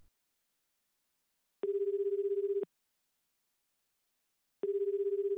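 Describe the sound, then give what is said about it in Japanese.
A mobile phone ringback tone sounds twice late at night while calling a private taxi, each steady electronic burst lasting about a second, separated by a long silent gap, clear with no voices. “深夜、見送りを終えると僕はいつも携帯で個人タクシーを呼び出す。”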